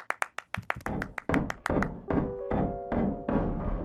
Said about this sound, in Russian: Ой, пойду загляну на чердак. Похоже, там окно от ветра стучит.